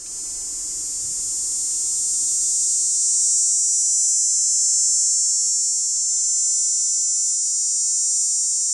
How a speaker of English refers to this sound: Dog day cicada, Tobison canicularis. One song each of two males.